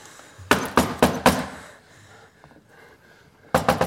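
Loud banging on a locked door: a burst of four heavy, rapid blows, a pause with faint rustling, then another quick volley of three or four hard knocks. No one speaks.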